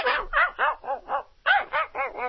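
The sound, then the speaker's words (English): A person mimics a far-off dog barking, like the neighbors' dog every morning at 6 o'clock, giving two quick runs of yappy, hollow-sounding barks, five and then four, fairly quiet with a brief pause between runs. “Now you're going to have to do Faraway Dog.”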